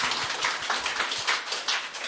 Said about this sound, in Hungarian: de csak adjunk egy tapsot az Úrnak az ő munkájára, tényleg